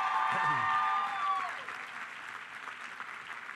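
An audience applauds in a steady, dense round of clapping, with a brief high cheer or whistle over the start before the clapping continues and slowly thins out.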